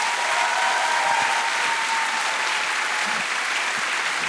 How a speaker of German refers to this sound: So, meine Damen und Herren, ich darf mal einen großen Applaus bitten.